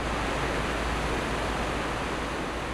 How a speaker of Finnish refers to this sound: Lyöttäydyin siis tähän joukkoon mukaan ihmettelemään vapaana virtaavaa vettä ja tähyilemään, näkyisikö niitä taimenia.